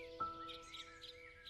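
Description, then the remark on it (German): Soft, repeated bird chirps and twitters rise above a steady background hum, with a brief louder knock near the start; the birdsong is gentle, with no voices. “Von allen Seiten hörst du Vogelgezwitscher”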